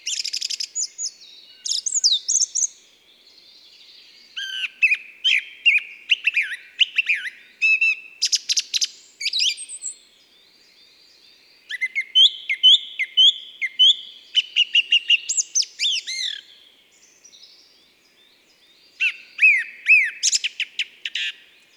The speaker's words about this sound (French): Nous sommes en forêt, vers 1200 mètres d'altitude, le 1er juin. C'est la fin de la nuit, et le premier oiseau qui chante, c'est la grive musicienne.